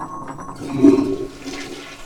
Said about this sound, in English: We're going to duck into the bathroom here. We're going to pick up the kitty water bowl, pour it out. And we're going to flush the toilet.